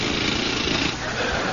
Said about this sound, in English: Thank you, nurse. And now, drill, please.